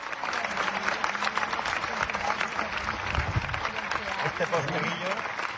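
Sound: theatre audience ovation applause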